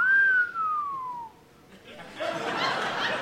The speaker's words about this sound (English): Someone just did a sexy lady whistle. Like a sexy lady was going to walk in.